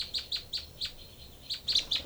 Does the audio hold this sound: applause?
no